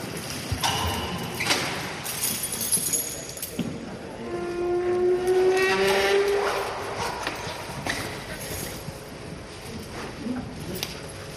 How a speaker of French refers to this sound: C'est pas une serrure qu'on tourne tous les jours. Non, c'est une serrure un peu spéciale avec un aimant et tout.